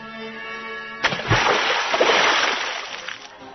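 A low steady hum gives way to a sudden heavy splash as something lands softly in a large rectangular pool of water, followed by a couple of seconds of churning, sloshing water that slowly settles. No one speaks.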